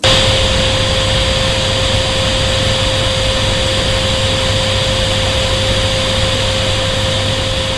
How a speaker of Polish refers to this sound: Tak, bardzo dobrze Państwo słyszeli. To dźwięk odkurzacza. Ktoś wrzucił do sieci nagranie z takim właśnie dźwiękiem. Trwa 61 minut, ponad godzinę.